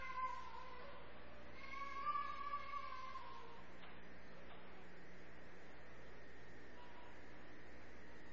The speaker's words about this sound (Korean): 애기 소리가 나니까 좋네요.